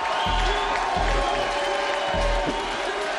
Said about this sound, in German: Jubel bei seinen Anhängern